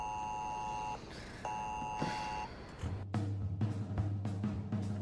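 An electronic alarm sounds in two long, steady high-pitched beeps with a short pause between, then gives way to a low hum and irregular clattering noises.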